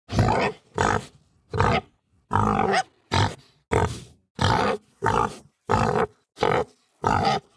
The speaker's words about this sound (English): That doesn't always work because, for example, in the case of pigs, I went one time during the summer to a park and I got amazing recordings.